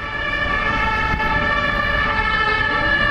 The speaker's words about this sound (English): Dozens of ambulances were on the scene shortly after the incident.